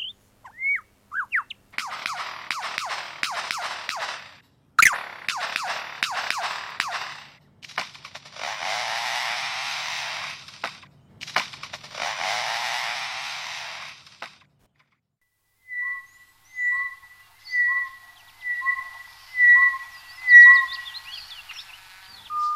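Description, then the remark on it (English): An African bird, a bubu shrike, sings: several bursts of harsh, rattling, buzzy clicks lasting a few seconds each, then a series of short, clear whistled notes repeated in a steady, evenly spaced rhythm. “This is a sample I had chosen from an African bird, a bubu shrike.”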